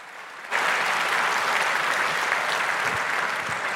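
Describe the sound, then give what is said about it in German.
A crowd gives a round of applause after a talk, just before a question session. The loud, sustained clapping bursts out after a brief quiet moment and holds steady and dense for several seconds, with no talking over it. “Aber erstmal vielleicht nochmal eine Runde Applaus, das war doch super, oder?”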